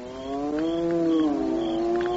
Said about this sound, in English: Hyenas more craven than anywhere else in Africa.